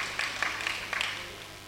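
A Chinese church audience on the Gold Coast breaks into applause for a pastor's wife, a dense patter of many hands with a few sharper claps standing out, then tapering off toward the end. It is fairly soft, and no one speaks over it.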